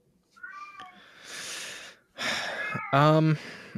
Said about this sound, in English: The cat has an opinion. I would like to hear what the cat has to say. Yeah, my cat has something to say.